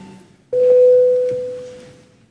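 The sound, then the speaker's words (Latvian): A single clear electronic bell tone sounds abruptly in a parliament, calling deputies to vote. It holds as a steady pure pitch and slowly fades over about two seconds against a quiet hum, with no talking. “Deputāti, lūdzu balsojumu, lūdzu zvanu.”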